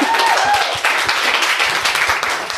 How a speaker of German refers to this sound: Okay, wir haben, glaube ich, eine Quote von 53% Frauen. Ja, das ist schon mal gut. Das ist ein Applaus wert, oder?